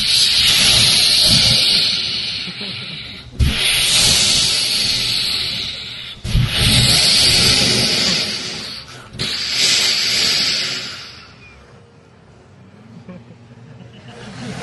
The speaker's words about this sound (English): The sound of the milk being extracted from the cows. Место и звук молока, который выдаивается из вымени коров.